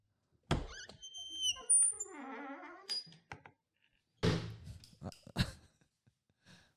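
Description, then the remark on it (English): A fridge door is pulled open with a thump and a brief squeaky creak, followed a couple of seconds later by a muffled thunk as it shuts and a few small clicks, fairly loud. “Get that fucking fridge door open”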